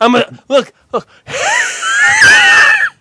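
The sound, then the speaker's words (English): A person voices a made-up, aggressive animal noise: a few short harsh bursts followed by a long, strained, screeching growl with wavering pitch, loud. “Every time I'm at a zoo, I must look like a gigantic asshole, because I'm the person just making fucking animal noises that don't even exist.”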